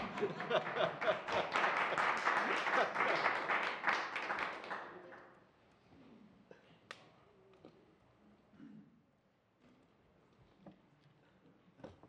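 An audience claps steadily for about five seconds, a dense, bright patter of many hands, then it dies away into near quiet with a few scattered taps and faint murmurs.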